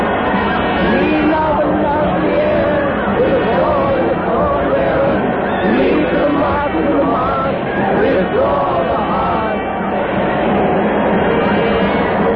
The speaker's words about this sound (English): She's coming. The drum is pound. The crowd shrieks.